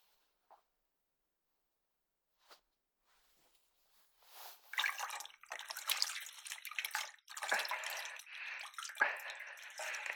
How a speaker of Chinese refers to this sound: 我也顺便把自己内裤脱了，放进水盆里一起洗吧。